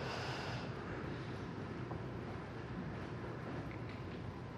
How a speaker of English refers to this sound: And I'd like to invite you to begin breathing breaths that are very long and deep and conscious. So filling the lungs with the in-breath.